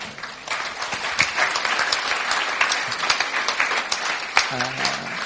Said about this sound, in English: Let's stretch our hands to these guys. Yeah, come on, you can give them a clap. That's good.